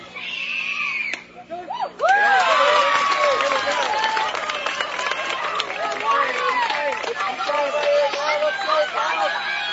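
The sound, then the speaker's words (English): A crowd cheers on a pitcher at a softball game: many overlapping voices shout and yell, swelling loudly after a brief quieter moment and staying dense and sustained to the end. “Lily Landaway evens it up as the crowd cheers her on”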